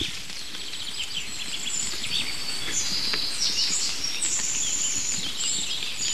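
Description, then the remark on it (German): A chaffinch's fast, high-pitched trilling song runs through the background, rapid and chattering, amid steady outdoor rustle and low-end noise, in a spot with hawthorn, larches, rowan, a conifer and tall bracken, with no one speaking. “Es ist dieses super schnell Schmetternde im Hintergrund.”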